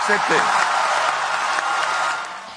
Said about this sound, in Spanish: ¿Los aplausos eran justificados?